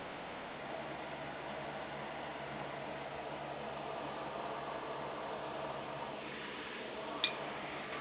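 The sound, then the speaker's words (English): A steady, even whoosh of electric fan noise runs unbroken throughout, like soft white noise at a low, constant level, with one faint click near the end. “Why am I hearing white noise? It's probably my fan.”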